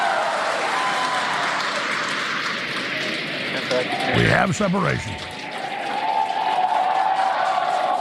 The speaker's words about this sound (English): You can tell by the cheers behind us and the views on your screen.